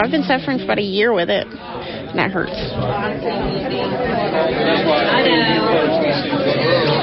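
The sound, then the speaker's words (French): A dense crowd of waiting people murmurs continuously in the rain in the dark at 6 a.m. on a Saturday, many overlapping voices blending into a steady babble with a few speakers rising briefly above the hubbub throughout. “À 6 heures le samedi matin, la foule se presse sous la pluie dans la nuit noire.”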